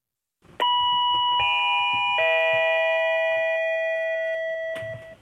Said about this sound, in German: Es klingelt an der Tür. Es ist der Paketzusteller.